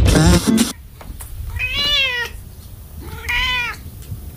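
A cat meows twice, each a drawn-out, wavering cry with a slight pause between them, clear after a brief loud burst at the start.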